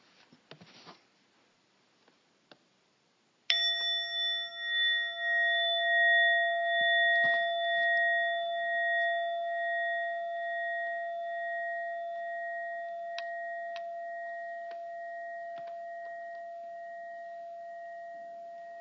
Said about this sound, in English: After the time of silence, I'll ring the bell very gently and bring you back.